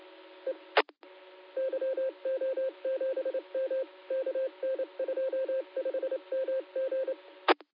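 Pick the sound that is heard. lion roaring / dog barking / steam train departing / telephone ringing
telephone ringing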